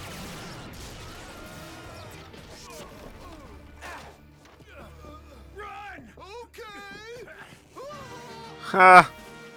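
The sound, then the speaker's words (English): Voices talk back and forth, then near the end a single loud, bright crash of breaking glass bursts out, sharp, before fading quickly. “I heard glass break, but no glass anywhere.”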